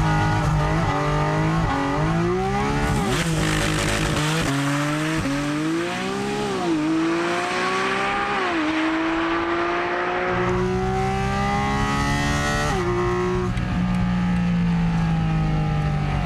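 A Porsche engine revs hard as the car accelerates with launch control through several gears, reaching 100 km/h in 3.4 seconds, its loud roaring pitch climbing, dropping briefly at each shift, then climbing again, with no talking.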